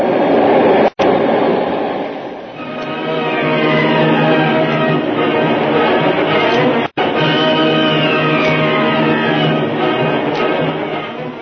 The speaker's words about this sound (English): This breaker will carry us all the way in. Here we go.